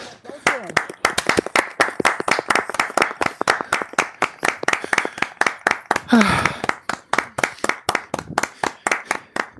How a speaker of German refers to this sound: So. Wir haben es geschafft. Ich will Applaus hören.